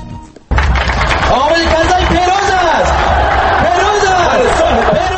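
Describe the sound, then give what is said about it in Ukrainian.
A loud crowd of supporters of incumbent Afghan president Hamid Karzai chants "Karzai is the winner" in unison at a pre-election rally, voices rising and falling in repeated rhythmic phrases over a steady roar of hubbub, beginning abruptly after a brief quieter moment. “Ці вигуки лунали на передвиборчому мітингу прихильників чинного президента ще за кілька тижнів перед виборами.”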